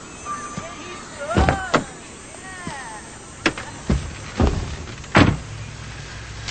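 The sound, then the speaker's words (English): A man carrying a briefcase climbs into a car's passenger seat: a handful of sharp door thumps and clunks, with faint squeaks and creaks of the seat and fittings between them, then a final solid door shut. “Thomas walks to Davis's car, looks inside, then gets in the passenger seat”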